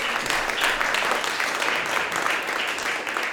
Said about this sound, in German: Und ja, klatscht mal.